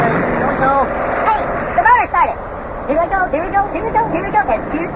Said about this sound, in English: Now, press down on that gas pedal there. Press down on that. Yeah, I am. Okay, I'm pushing down the gas pedal. Okay, here we go. Hey, the motor started.